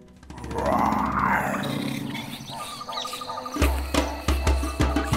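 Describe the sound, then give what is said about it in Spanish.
A deep, rumbling lion roar swells loudly for a few seconds, followed by a series of sharp, rhythmic thumps and clatters, like heavy footsteps or drumbeats, with no talking. “De golpe se escucha un sonido muy fuerte, igual no les importa porque son valientes, aunque pensándolo un poco mejor, mejor que se escondan que viene el león.”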